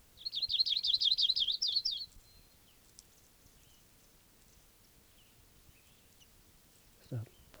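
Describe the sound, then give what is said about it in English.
A bird sings a rapid, high-pitched warbling trill for about two seconds, then falls silent, leaving quiet background hiss and a brief low sound near the end. “I think the birds are tooping.”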